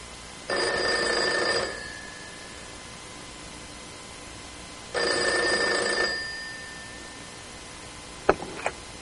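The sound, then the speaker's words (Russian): A telephone rings twice, each ring a loud bell burst of about a second with a pause between, followed by a sharp click near the end like a receiver being picked up. “Алло. Кто у телефона?”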